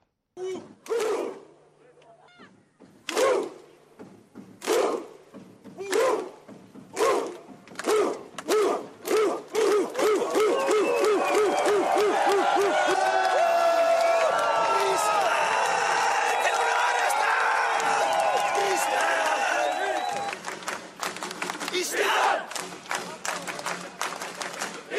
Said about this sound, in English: But first, Iceland fans warm up with their Viking clap.